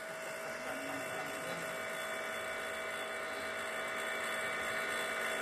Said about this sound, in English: I thought, maybe it's like that, or maybe it's like my refrigerator. Like, I can always hear my refrigerator a little bit in the background, especially if you jam the mic right there behind it.